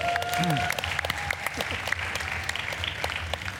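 An audience bursts into steady applause, a dense wash of many hands clapping at once, with a few brief tonal sounds and murmurs in the first second before the clapping carries on evenly.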